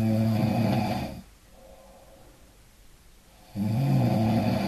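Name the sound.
person snoring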